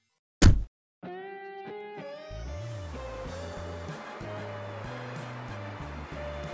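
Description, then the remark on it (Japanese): A sharp thump opens, then music with steady tones and a stepping bass begins, and a continuous rushing wash of surf on a seashore, reached by car, swells in underneath and keeps going to the end. “私たちは車で近くの海岸にやってきた。”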